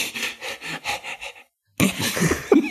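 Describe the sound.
A person imitates a dog panting to show how dogs sweat, with about eight quick, rhythmic, breathy huffs, then a short pause before a rougher, noisier burst of breath and voice.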